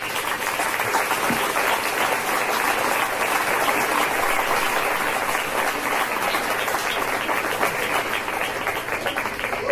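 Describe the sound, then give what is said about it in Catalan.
Loud, sustained applause from a festival crowd welcoming the representatives of the Nit de Foc, a dense wash of many hands clapping at once that holds steady for the full length without any talking. “Donem la benvinguda als representants de la Nit de Foc. Un fort aplaudiment.”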